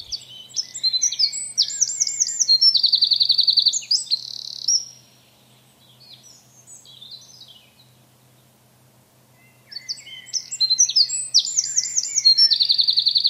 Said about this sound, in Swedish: Titornas varningar kan nämligen ibland även användas som rop på hjälp och förstärkning. För tillsammans med andra fåglar i försvar trakassera och skrämma iväg rovdjur som hotar fåglarna.